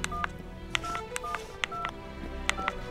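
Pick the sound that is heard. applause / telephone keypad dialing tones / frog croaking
telephone keypad dialing tones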